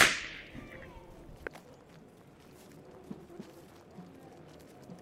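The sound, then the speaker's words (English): A single sharp, loud whip crack opens the sound, its bright snap fading quickly, followed by a quieter outdoor bed with faint hoof-like clops and scattered knocks. “Monroe is taken aback, but silenced again by the crack of a whip.”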